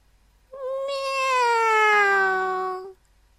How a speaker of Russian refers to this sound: Громко крикнул котенок.